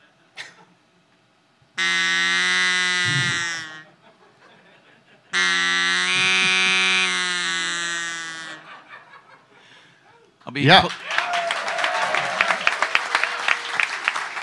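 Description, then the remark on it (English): A duck call is blown in two long, loud, buzzy honks, each lasting a few seconds with a short pause between, followed by a burst of applause. “he gifted me with my own duck call, and so I now have a duck call, which I intend to carry with me for life for heckling purposes.”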